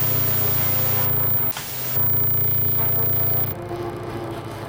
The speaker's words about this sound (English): Pink. Everybody goes for white. White's kind of boring, isn't that funny? White noise people, you have the most boring noise.